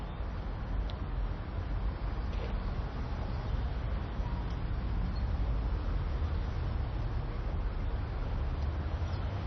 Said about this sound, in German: Man hört auch von rechts irgendwelche Autos fahren und Verkehrslärm.